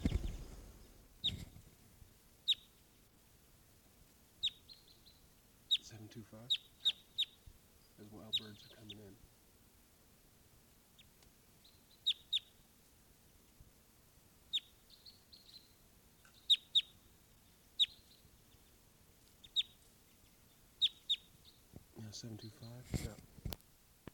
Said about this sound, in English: There's a crossbill right here off the camp in a ponderosa pine looking down. Type 2 bird giving calls.